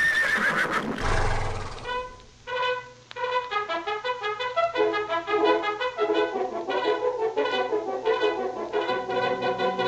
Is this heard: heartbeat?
no